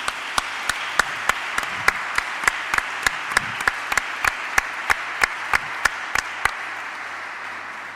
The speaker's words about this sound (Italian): Anche a loro il nostro applauso, il nostro saluto.